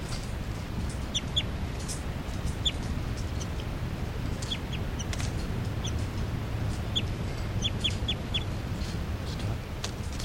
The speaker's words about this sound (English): Looking at these birds again. That's 3-3 chitter. 3-3. And the new juveniles are giving calls here, flight calls.